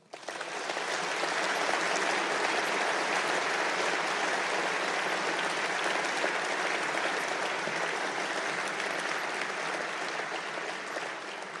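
Sustained applause from a large audience in Lingen for the paid and volunteer workers of the town's caring community, dense steady clapping that holds at an even, loud level for about eleven seconds before easing slightly at the end. No voices stand out.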